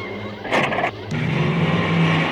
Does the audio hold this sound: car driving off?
yes